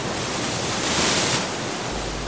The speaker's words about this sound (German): Die Brandung des Indischen Ozeans. Wellen brechen sich am Strand von Port Alfred am östlichen Kap von Südafrika.